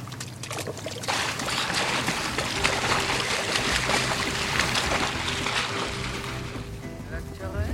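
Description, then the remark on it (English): A rescue lifeboat churns steadily through water, a continuous loud rush of spray and wash with a low engine rumble underneath and faint voices mixed in. “The lifeboat. Look at you all driving a rescue boat.”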